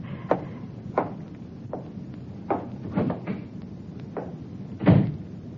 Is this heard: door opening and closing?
yes